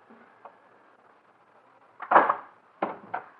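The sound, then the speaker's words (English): A door opens: a faint knock, a rattling thud of the latch, then two sharp clicks as it swings, with no voices. “Darling, let me in. Please open the door.”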